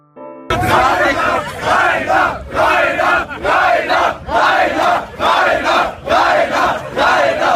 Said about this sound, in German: ein Feintreffen auf dem Summer Breeze, wobei seine Fans lauthals seinen Namen riefen.